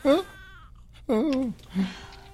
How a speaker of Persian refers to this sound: پستونک جاش اونجا نیست. مگه کار اینا قطع کردن صدای بچه نیست؟